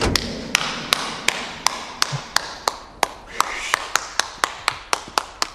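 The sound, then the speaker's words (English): A heavyset man claps alone as the lights turn on after a speech at Zielinski Labs. The claps come in a steady, unhurried rhythm, around sixteen sharp, evenly spaced claps, fairly loud, with no other sound competing. “The lights turn on, and a heavyset man applauds.”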